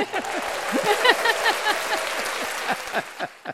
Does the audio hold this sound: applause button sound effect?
yes